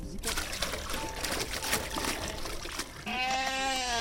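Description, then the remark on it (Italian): A wavering sheep bleat rises near the end, after a few seconds of noisy, trickling background with rustling and bustle, the cry clear and loud above it; a flock of about ten sheep in a chestnut grove in upper Sorengo, facing the church. “Cioè le sue pecore sono delle vere e proprie manutentrici del territorio.”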